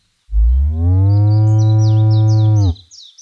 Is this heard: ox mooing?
yes